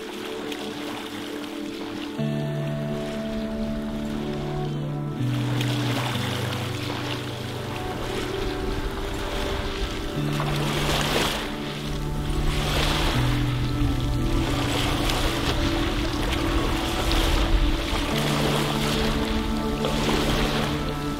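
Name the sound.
ocean waves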